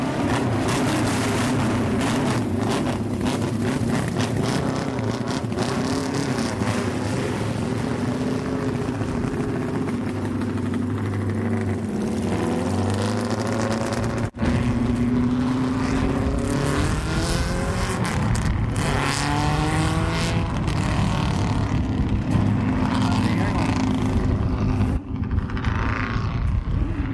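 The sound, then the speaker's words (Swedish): Three four-cylinder 500cc racing motorcycle engines roar continuously for the whole stretch, pitch climbing and falling as they rev and pull away for a few laps on the airfield racetrack at Jurby, Isle of Man, loud with no talking. “Så det låter alltså när tre stycken fyrcylindriga 500 hojer ger sig iväg för några varv ut på flygfältet där.”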